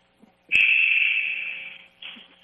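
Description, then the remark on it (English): A basketball game buzzer at a game between Kowak and the Skagway Panthers, the first buzzer ending a timeout: a loud, sustained electronic blare at a steady high pitch for over a second, slowly fading, then a shorter, quieter burst after a brief gap. “All right, that's the first buzzer, so the boys should be taken.”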